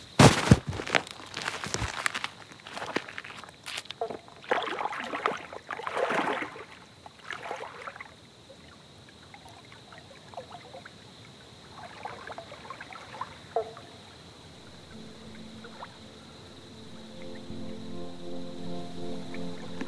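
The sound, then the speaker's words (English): Loud splashing and sloshing of water for several seconds as a person slips into the water at night under a full moon, then quieter ripples and a few softer splashes, with a low steady hum rising near the end. “There's little bats flying overhead, and there's a pretty full moon out, so I'm going to try and slip into the water now.”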